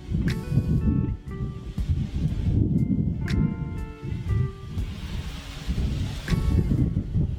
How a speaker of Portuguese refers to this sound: Agora, coloque a tua atenção no barulho do vento.